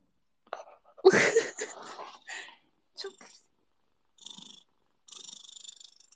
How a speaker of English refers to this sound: Chunkers purr into the microphone. Oh, did you hear that?